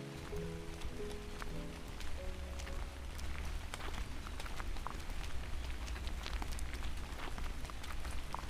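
Steady rain falls on an old forest trail beside the BA 652 road in the Brejo Mole region, a dense hiss broken by countless sharp drop impacts over a low constant rumble. No voices are heard.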